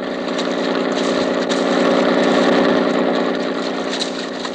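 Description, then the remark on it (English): A police launch motorboat engine runs steadily while searching San Francisco Bay, a loud, continuous droning rumble with a buzzing hum that holds an even level throughout, with no voices. “Oh, please, could you not make this boat go faster?”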